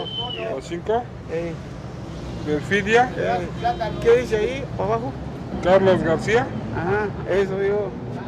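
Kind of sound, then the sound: ambience, street traffic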